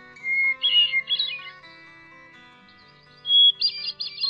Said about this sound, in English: The bird whose song many regard as the most beautiful of any North American bird species, today's featured feathered friend, Catharus guttatus, the hermit thrush.